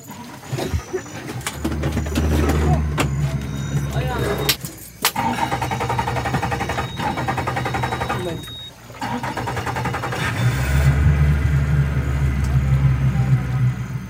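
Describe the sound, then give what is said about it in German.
A motorboat, started by a village chief, drones loudly and steadily as it travels upriver, its low throbbing hum briefly dipping twice before surging back up as the boat presses on. “Der Cacique, also der Häuptling des Dorfs, startet das Motorboot und fährt flussaufwärts.”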